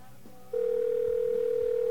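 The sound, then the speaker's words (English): A telephone line rings on a call to AT&T: after a short, quiet pause, a single steady mid-pitched ring tone starts and holds, unbroken and fairly loud, to the end with no answer. “Well, I think I'll just try MCI then, since AT&T is too busy to pick up the phone.”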